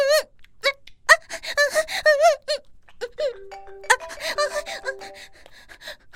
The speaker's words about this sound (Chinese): 电话，我老公的电话。